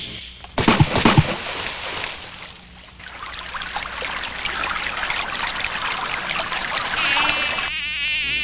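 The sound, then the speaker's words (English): A swarm of mosquitoes whines and buzzes steadily, with a brief burst of splashing water near the start and a faint trickle underneath. “Now, my sweet Skeeters, we must feast.”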